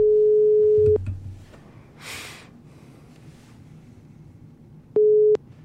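A telephone ringback tone sounds while a call connects: a steady one-second beep, a long pause with a soft breathy rustle, then a second beep starting about four seconds later.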